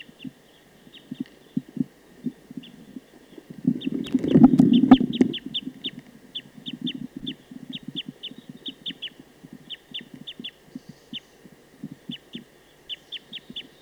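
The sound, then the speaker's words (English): A wild bird in a tree about 50 meters from a bird-netting site calls rapidly in a long, steady series of short, clucking notes with sharp high clicks, swelling into a louder burst partway through before continuing at an even pace. No voices. “I don't see it right now, but it's in a tree about 50 meters from the net site.”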